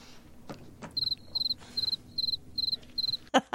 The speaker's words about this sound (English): They whipped out the cricket sound for that. Man, they do that. And I mean, those moments are so uncomfortable.